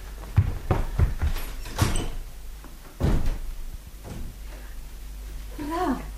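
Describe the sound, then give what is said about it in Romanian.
Several sharp knocks on a door come in an uneven burst, then a single louder rap after a short pause. A brief voice is heard near the end. “Poliția nu bate la ușă, dă buzna.”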